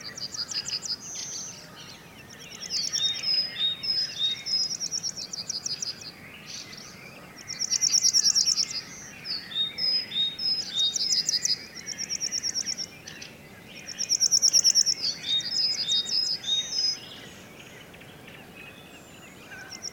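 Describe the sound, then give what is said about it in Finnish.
A yellowhammer sings its repeated high, buzzy phrases fairly close to a field microphone, mixed with chirps from great tits and thrushes over a soft outdoor hum, the calls coming in bursts throughout. “Ja tämä voimakas ääni, joka kuuluu tässä peltomikin suunnasta, niin siinä on keltasirkku.”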